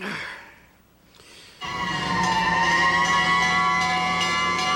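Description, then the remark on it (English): Ernie imitates a fire engine siren while counting fire engines to fall asleep: a soft falling tone, a brief pause, then a loud, sustained wailing note that wavers slightly in pitch for about three seconds. “I'll count another fire engine.”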